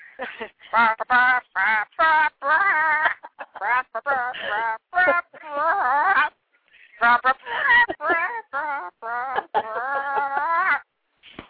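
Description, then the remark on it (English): People imitate chickens with their voices, clucking in a sing-song rhythm to the tune of the birthday song, the clucks fairly loud with brief pauses between phrases. “Do you want us to cluck to you? Birthday song? Yes, I have to hear the chicken birthday song.”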